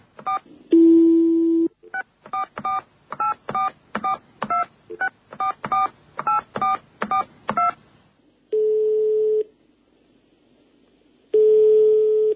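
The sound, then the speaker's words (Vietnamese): A short dial tone, then a quick run of about fourteen touch-tone beeps as a telephone number is keyed in to call the Grand Palace hotel to reserve a room, followed by two long ringing tones with a pause between them. “mà chỉ còn cách là gọi điện thoại đến khách sạn Grand Palace mà thôi.”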